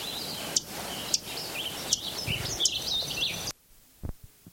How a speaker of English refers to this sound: Third Lincoln Sparrow singing.